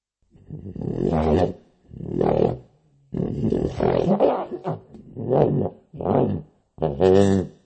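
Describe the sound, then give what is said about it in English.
A small dog growls and snarls in about six loud, rumbling bursts separated by brief pauses, each rising and falling, with no talking. “Hi there, little doggy. Go away, little doggy.”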